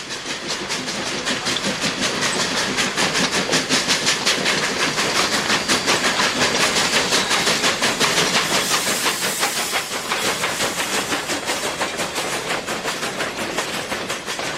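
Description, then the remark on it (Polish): A train rolls steadily along the rails from Rome to Castel Gandolfo, Italy, a journey of about 40 minutes, a loud continuous rumble with a fast, even clatter of wheels and a broad hissing roar, with no voices. “My udamy się pociągiem, podróż trwa około 40 minut.”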